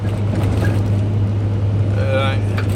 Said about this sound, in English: And that's why those, here we go, speeding fucking motorcycle.